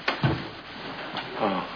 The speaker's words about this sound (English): It's only a closet door.